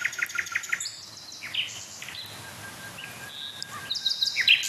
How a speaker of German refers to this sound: Aber ich habe gerade das Gefühl, dass die Nachtigallen jetzt so richtig in Fahrt kommen. So richtig aufdrehen.